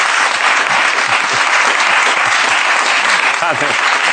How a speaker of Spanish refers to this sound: Un aplauso para